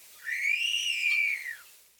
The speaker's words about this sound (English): The wolf whistle notes are especially helpful in recognizing this species.